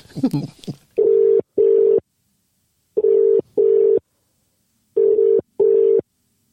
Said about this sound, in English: He's ringing now, Andrew, if you want to try and ring him.